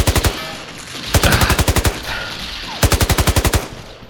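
Loud bursts of rapid automatic machine-gun fire, three volleys of evenly spaced sharp cracks separated by brief pauses, with no voices present.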